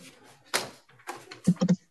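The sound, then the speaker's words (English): Computer mouse clicks: a couple of separate clicks, then a quick run of three sharp, fairly loud clicks near the end, with no talking. “Oh, I'm clicking the computer. Oh, yeah, we're hearing it here.”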